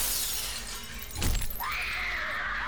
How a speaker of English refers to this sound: Then suddenly, he heard a shattering of glass from the 10th story window above his head.